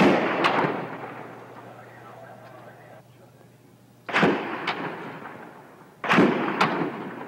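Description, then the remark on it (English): Three sharp, loud gunshot-like cracks from an archival news recording, spaced a couple of seconds apart. Each is a sudden burst that rings out with a short echoing tail over a low background hum. “Instead of gunshots, the area will be filled with the sound of bells from the Tower Carillon.”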